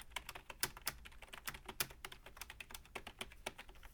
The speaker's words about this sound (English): And up here, a USB keyboard, which I got for her to replace it with. Which whose action is much better.